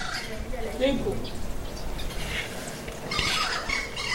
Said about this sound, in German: Und die Kuba-Krähe bringt mit ihrer seltsamen Stimme die einzigen digitalen Ereignisse in unserer Welt hier.